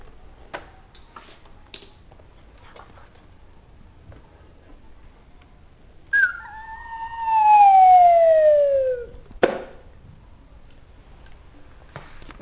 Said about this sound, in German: In der Ferne trompetet ein Babyelefant.